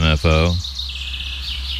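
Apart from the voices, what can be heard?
birds chirping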